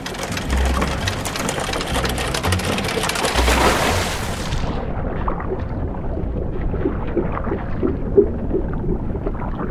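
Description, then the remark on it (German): A ferry's engine, started by the ferryman at Bobergen on the river Oste, settles into a steady, loud mechanical rumble with a rhythmic chugging throb, with no voices. “Achtung, die Fähre startet gleich. Der Fährmann lässt den Motor an.”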